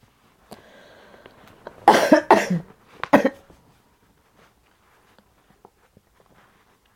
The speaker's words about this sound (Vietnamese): Nói chứ mấy ngày nay tôi cũng còn ho à.